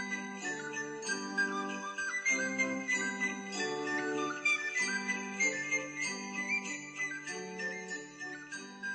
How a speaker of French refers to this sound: Et tout à coup, une lumière mystérieuse inonde les fenêtres et l'on entend du dehors le son des cloches.